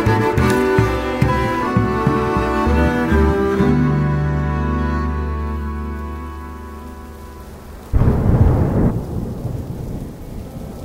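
Steady rain with deep, rolling thunder rumbling low beneath it, then a sudden loud thunderclap crashing in near the end. Sustained tonal notes ring over the storm at the start.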